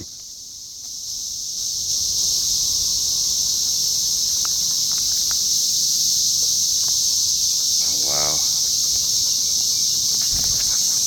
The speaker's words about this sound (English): can I play you a real clip of cicadas? Oh, yeah. So we were walking the dogs right before we did the show. And here we go. This is real. This is not a joke.